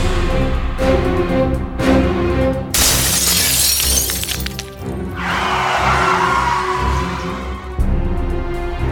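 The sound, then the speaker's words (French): A sudden, loud crash of glass shattering as Manute, a giant butler, sends Dwight flying through a window, followed by a long rushing wash of falling shards over a tense, droning background. “Ce dernier les interrompt pour enlever Ava et envoie Dwight valser à travers une fenêtre et le renverse avec sa voiture.”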